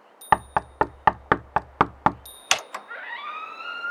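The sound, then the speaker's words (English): Eight quick, evenly spaced knocks rap on the front door of a tavern, crisp, followed by a heavier thud and a drawn-out, rising creak as the sound fades. “Batula? No, it's the front door, and that wasn't my knock.”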